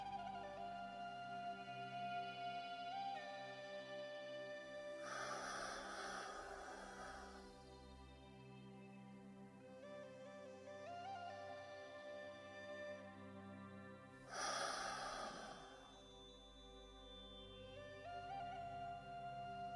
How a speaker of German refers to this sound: Wir holen nun dreimal ganz tief Luft, atmen vollständig ein, halten den Atem und atmen vollkommen wieder aus.